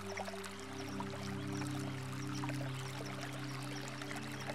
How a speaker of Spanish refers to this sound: Sea consciente del sonido del agua que está corriendo.